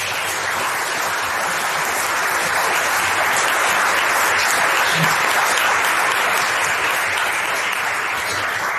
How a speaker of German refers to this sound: Ja, ich kann da nochmal einen Applaus geben.